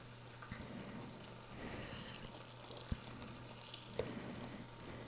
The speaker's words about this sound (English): And you can see, you know, the sauce that I've going down into the pot is a pure liquid.